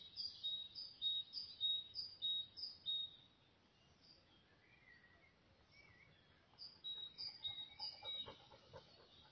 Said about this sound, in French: Je ne sais pas si l'enregistrement vous permet d'entendre tous les oiseaux.